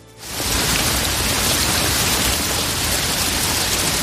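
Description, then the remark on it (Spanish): Steady rain pours down in a dense, continuous hiss that swells in after a brief quiet start and holds at an even loudness throughout, with no voices. “Y lo peor es que sigue sin llover.”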